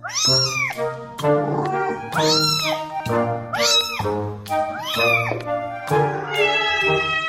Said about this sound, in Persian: چنانکه آقای دریزین می‌گوید کاربران تاکنون با استفاده از این برنامه 1 میلیارد میوی متفاوت گربه‌ها را بررسی و ترجمه کردند.